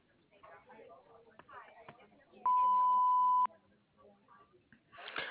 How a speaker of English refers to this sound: We are not available, so please leave a message after the beep.